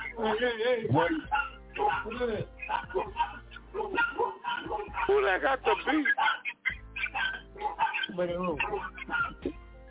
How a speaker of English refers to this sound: He got that pet chihuahua over there. Dude, that sounds like some pit chihuahua out there.